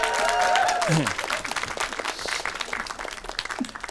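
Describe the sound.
An audience breaks into sustained applause, a dense wash of many hands clapping, with a voice whooping or cheering over the first second before the clapping carries on steadily and slightly softens.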